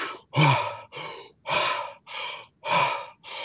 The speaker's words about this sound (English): And now if you really want to do something rather remarkable, start breathing really deeply as fast as you can, like this.